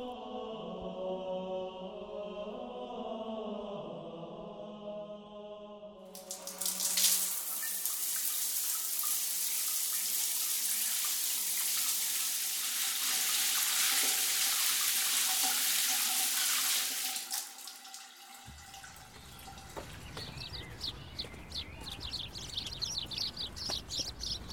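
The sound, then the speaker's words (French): Water from a morning shower pours in a steady hiss for about eleven seconds, beginning abruptly after a brief sung melody and cutting off before bird chirps take over. “Et après la douche, départ 7h30, direction gare d'Argenteuil.”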